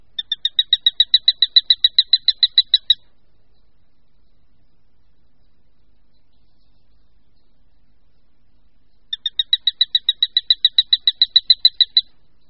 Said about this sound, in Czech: Daleko výraznější a častěji slyšitelné je varování při vyrušení u hnízda. Poslechněte si opět.